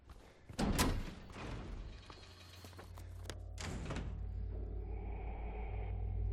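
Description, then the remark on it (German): A heavy door is unlatched and pushed open from the other side with a couple of loud clunks and thuds, followed by a steady low rumble and hum, without talk. “Nächste Gelegenheit, diese Tür von der anderen Seite öffnen. Das mache ich jetzt, bevor ich hochgehe.”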